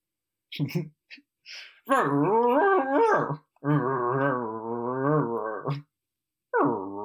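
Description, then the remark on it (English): A voice imitates dogs: a few short yips and grumbles, then two long, wavering howls with sliding pitch, and another howl starting at the end. “And I just pictured, like, what Stu's dogs might be saying to Bobby's dogs.”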